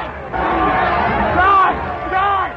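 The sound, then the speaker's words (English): A large crowd gathered outside a magistrate's court roars and howls for Sutcliffe's blood as he is brought there, a dense wall of voices swelling in two loud surges with shouted yells rising above the din, no words distinguishable. “As he was brought to the magistrate's court, a large crowd gathered outside the building, howling for his blood.”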